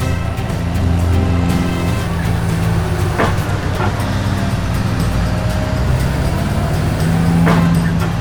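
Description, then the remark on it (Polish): A heavy truck engine rumbles as it drives up, a steady, loud, low drone lasting throughout, broken by a few brief clanks or hisses. No one speaks. “Ciężarówko, zacznijmy z prawej strony. Tak będzie łatwiej, dobrze? Okej, już podjeżdżam.”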